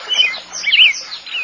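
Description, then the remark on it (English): A bird chirps in quick, high twittering bursts, several short calls close together, fairly loud, with no talking over it. “A bird.”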